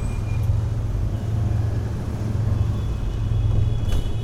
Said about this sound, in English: Around us, the motorcycles, mopeds and even more motorcycles swarm, loaded with extended families and curious cargoes, moving with the logic of a running river, exploiting any weakness in the terrain to forge a new stream.